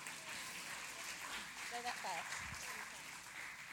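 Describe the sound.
An audience applauds steadily throughout, a dense wash of clapping at a moderate distance, with a brief voice calling out partway through.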